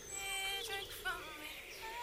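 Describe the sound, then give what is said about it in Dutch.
Faint, high-pitched bird chirps flicker through a quiet outdoor background, with thin whistling tones and short tweets scattered across a couple of seconds. “Ja, toch een beetje die vogeltjes, hoor je dat?”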